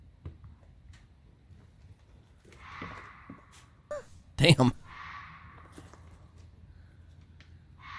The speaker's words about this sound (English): these are just YouTube experts, but these are bobcat screams. I've heard that too. Bobcats aren't all over the United States, but in some of these areas, there are bobcats. So we're going to listen to what a bobcat.